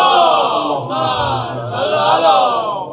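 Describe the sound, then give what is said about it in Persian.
A crowd of many voices at a religious gathering chants a salawat together in unison for the health of Imam Zaman, a loud, sustained wall of overlapping voices that rises and falls slightly over three seconds without pause. “برای سلامتی امام زمان صلوات میشه.”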